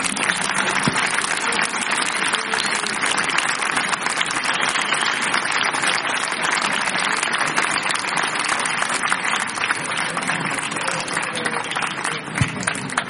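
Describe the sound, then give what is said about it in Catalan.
A crowd applauds steadily and loudly throughout, a dense, continuous wash of many hands clapping with no pauses and no voices standing out. “Un aplaudiment per vosaltres, joder.”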